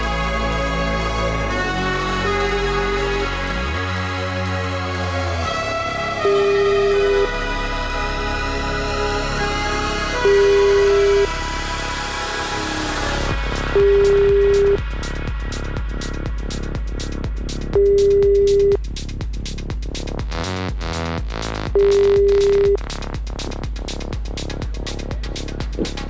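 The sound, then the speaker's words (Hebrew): An outgoing call's ringback tone, calling a listener's husband during a live radio show, repeats six times. Steady mid-pitched beeps are spaced a few seconds apart over continuous background music, with no one answering. “בואי נתקשר אליו.”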